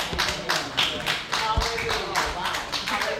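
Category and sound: crowd, audience clapping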